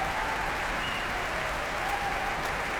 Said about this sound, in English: They are applauding Matthias Bammert, staying in their seats as he comes on stage, and are tapping their feet on the ground and their bows